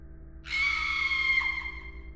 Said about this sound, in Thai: เราได้ยินเสียงกรี๊ดสักพักก็หายไป